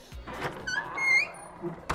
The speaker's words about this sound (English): You can hear muffled hoots of drunken laughter behind the door after it slams behind you.